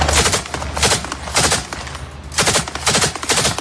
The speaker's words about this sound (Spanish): La desesperación de la gente que se muere de hambre se junta con los disparos de los soldados israelíes que custodian la ayuda y llevan a momentos de tensión como este que termina con esos disparos.